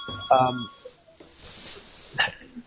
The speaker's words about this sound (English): I have a phone ringing in the background, but please carry on.